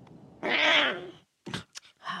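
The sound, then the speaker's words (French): A lion cub in The Lion King tries to roar, producing one drawn-out, high, strained cry that sounds more like a yowling meow, followed by a few short, sharp bursts of sound. “Avec un peu d'entraînement, tu ne seras plus considéré comme un lionceau. Écoute bien.”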